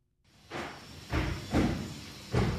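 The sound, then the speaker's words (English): A construction crew banging on walls at the Lifelong Clinic in West Berkeley at 7:30 in the morning: four heavy, booming thuds at an uneven pace over a steady background hum, loud, with no voices. “A construction crew is banging on some walls”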